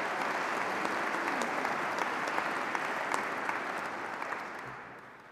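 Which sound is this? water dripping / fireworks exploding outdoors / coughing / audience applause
audience applause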